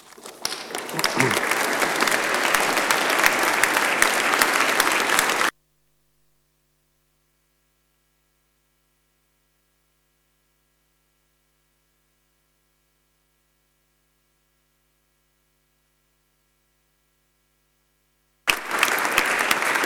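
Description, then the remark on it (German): An audience applauds at the end of a lecture with dense, steady clapping for about five seconds, then it cuts to near silence with a faint low hum before the clapping bursts back in at the end. “Sie merken es an dem Beifall.”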